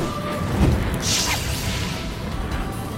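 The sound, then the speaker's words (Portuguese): A magic arrow is shot with a bright, airy whoosh that sweeps past, following a dull low thump, over a steady rumbling background with no voices. “Ataque certeiro! Essa flecha sempre acertará o seu alvo.”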